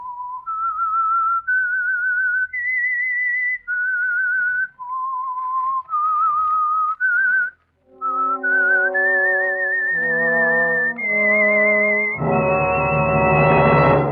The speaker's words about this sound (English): Then they heard a hauntingly discordant 13-note whistle, one where the sound became increasingly louder as a suspenseful music score began to play.